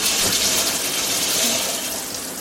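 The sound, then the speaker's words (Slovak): Shower water runs in a steady hiss of spray that stays constant from start to finish, with no voices over it. “Zvuk čura... Nie. Sprchy.”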